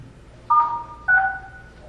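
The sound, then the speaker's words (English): Two phone keypad tones, each a steady dual-pitched beep, pressed about half a second apart as someone on a phone-in call enters star then 6 to unmute. The beeps are clear against a quiet background, with no talking. “Can you press star 6 and tell us if you can hear us, please?”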